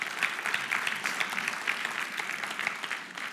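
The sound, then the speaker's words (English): Steady applause from an audience after a Bible reading of Daniel being taken up out of the den, dense overlapping claps with a bright crackling texture, holding even and moderately loud throughout with no voices over it. “Let's clap that up.”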